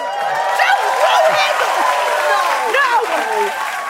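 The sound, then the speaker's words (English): Steady pity clapping from a crowd runs for the whole stretch at an even loudness, mixed with voices and a few rising and falling whoops. “No, that was pity clapping.”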